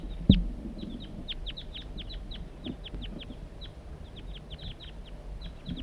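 A crossbill gives a rapid, irregular series of short, sharp, high chipping calls in flight, repeated dozens of times over a low background rumble, with a brief thump near the start.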